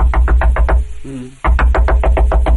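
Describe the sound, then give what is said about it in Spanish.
Loud, rapid pounding on a door in the early morning: one hurried burst of knocks, a brief pause with a faint low tonal sound, then another frantic, evenly spaced volley of blows. The knocking wakes a blacksmith. “Total, una noche, el herrero es despertado en la madrugada por unos golpes frenéticos en la puerta.”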